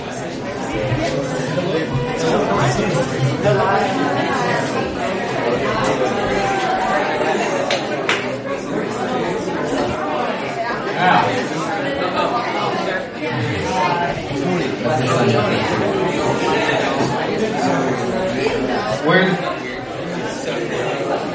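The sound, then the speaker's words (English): An audience of people chatting at once as they say hello to their neighbors, a steady dense babble of overlapping voices with no single speaker standing out, sustained at an even level throughout. “And since we have this moment while I'm combing over here, why don't you guys say hello to your neighbors right next door to you? Say hello.”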